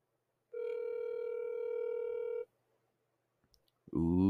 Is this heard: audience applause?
no